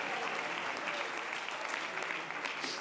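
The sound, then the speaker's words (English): A crowd at a worship service claps hands in praise of Jesus, a steady, dense wash of applause that holds at an even level throughout, with no individual claps standing out. “Oh, let's clap our hands as if to say, I want more of Jesus.”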